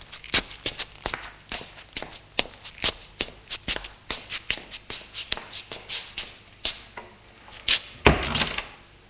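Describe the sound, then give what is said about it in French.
Steady footsteps on a hard floor, evenly paced, ending with a louder, rougher burst that sounds like a door being opened as the steps enter a small white one-storey house. “Elle lui dit d'ouvrir la porte.”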